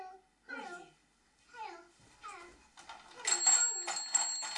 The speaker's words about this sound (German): Anrufen. Es klingelt. Das Telefon klingelt?